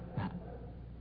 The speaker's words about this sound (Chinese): 外边那个狗啊，大家听着也是有点意思了，它当当当就咬起来。